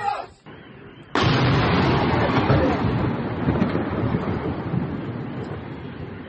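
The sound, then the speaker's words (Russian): A downed drone slams into a house with a sudden, loud explosive boom about a second in, followed by a heavy, sustained roaring rumble that slowly fades over several seconds. “А, в дом попали. Во, этот. Сбило дрон, и дрон в дом упал.”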